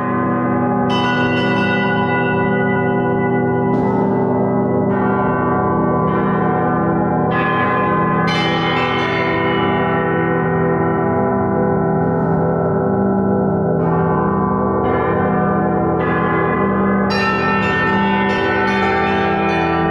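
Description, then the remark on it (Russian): Resonant metal of an alloy close to bell bronze rings continuously, with repeated bright strikes layered over a sustained, humming wash of overtones. Loud, with no voices. “Это близкий к колокольному металлу, несколько другого состава, но его можно назвать колокольной бронзой.”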